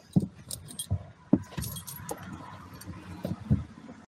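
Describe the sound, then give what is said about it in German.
Bottles rattle and clink in a water crate inside a moving car, a string of irregular glassy knocks and jingles over the low rumble of the car. “Das ist denn ein Wasserkasten.”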